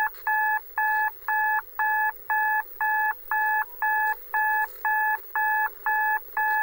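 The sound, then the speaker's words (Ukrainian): A clock time signal from a telescreen striking 14:00: a steady run of about thirteen evenly spaced electronic beeps, each a bright two-tone chord, loud and regular with short gaps and no voices. “Телеекран відбив 14-ту годину.”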